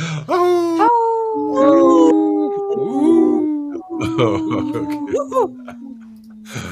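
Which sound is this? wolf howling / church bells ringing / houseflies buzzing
wolf howling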